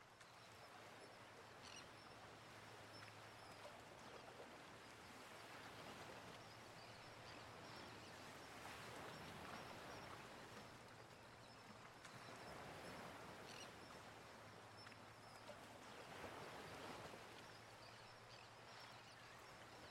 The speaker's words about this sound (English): So now we're going to listen to the gentle sounds of the ocean.